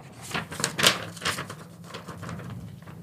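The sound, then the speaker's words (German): A plain A4 sheet of paper being rustled and crinkled, with several quick crisp bursts in the first second and a half, then softer handling noise trailing off. No one speaks. “Ich habe ein einfaches Blatt Papier.”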